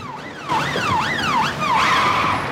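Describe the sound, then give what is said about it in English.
A police siren wails loudly as the police arrive, its pitch sweeping rapidly up and down in repeated cycles over a low rumble of engine and road noise. “The police arrive.”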